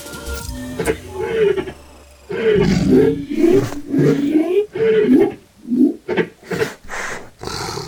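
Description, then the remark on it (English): Big cats roar in deep, rumbling bursts, several overlapping at first, then breaking into a series of pulsing, grunting roars. A quieter low rumble comes before them. “The cats are turning towards us.”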